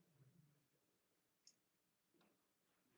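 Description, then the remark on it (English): Faint clock ticking: a few sharp, isolated ticks, irregularly spaced, against a quiet low hum, with no voices. “This is a doomsday clock, isn't it? It's gone off.”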